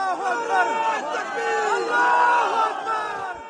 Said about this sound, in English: Through the darkness and forest, the sight the crowds had been hoping, waiting and praying for. Strapped to the cable, the final rescue. Waiting arms and shouts of God is great.